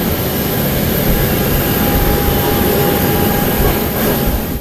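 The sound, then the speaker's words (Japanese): The jet engines of a P-8A Poseidon, a Boeing 737 airliner modified for maritime reconnaissance and attack, roar loudly and steadily overhead, with a thin high whine riding over a dense, rumbling wash of noise. No one speaks. “P-8A ポセイドンのエンジンが頭上で轟音を上げる中、アイア・ハリド空軍中尉は兵器庫のハッチの下に身をかがめています。”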